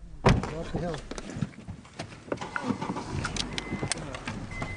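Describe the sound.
A car door shuts with a heavy thunk right at the start as people get into a car to drive to a fracking drip tank, followed by a few lighter clicks and rattles while people talk.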